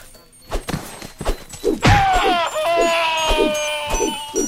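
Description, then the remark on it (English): A steady run of dull thumps, then a loud, strained muffled scream from a character being punched rises and holds for a few seconds, wavering like a cry through a covered mouth while the thuds keep pounding underneath. “Okay, that one scream sounded like I punched the guy in the mouth and he like had his hand over his mouth screaming.”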